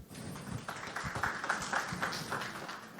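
An audience applauds steadily for several seconds, a dense crackle of many hands clapping at once with a few brief higher tones poking through the noise.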